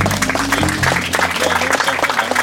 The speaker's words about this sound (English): Can we get a round of applause for that discussion we just had?